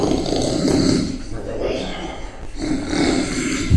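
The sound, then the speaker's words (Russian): Loud, rasping snoring of a sleeping man, recorded at night on a dictaphone, with three long rattling breaths in a steady rhythm and brief quieter gaps between them. “Потом он взял диктофон, подкрался к нему ночью и записал этот храп.”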